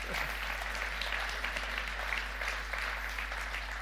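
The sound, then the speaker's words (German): An audience applauds for the coffee service staff, a dense, continuous patter of many hands at a fairly even level, with no speech over it. “Sagt, hey, wie viel, yes, lass mal Applaus geben für unsere Kaffeeleute.”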